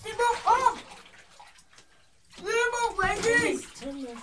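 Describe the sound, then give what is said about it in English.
Bathwater sloshes and splashes while a child shouts in loud, high-pitched bursts; between the two bursts of voice, softer watery noise carries on. “No, because you're splashing and you're shouting and I can't tell what you're saying.”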